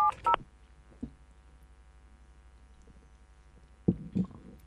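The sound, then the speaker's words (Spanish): A couple of short telephone keypad tones beep at the start as a phone number is dialed to call an association, followed by a soft click and quiet hum, then a few dull handling thumps near the end. No one speaks. “Bueno, vamos a llamarlo. Vamos a llamar y... Tenemos ahí el teléfono de la Asociación Familia Propiedad y...”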